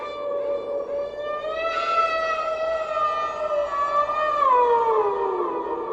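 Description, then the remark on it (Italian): A simulated coyote howl in the distance: one long, steady, siren-like wail that holds its pitch, then slides gradually downward near the end. No one speaks. “nonostante questo coyote spogliato in lontananza, io devo dirlo, sì.”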